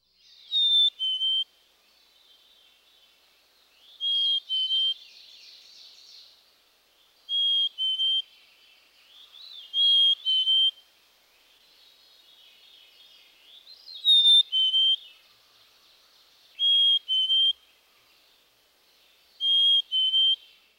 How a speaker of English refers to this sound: Now the songs, which are even more distinctive. Listen to the melodious, two-noted whistle of the black-capped chickadee, also known as its Phoebe song. Phoebe.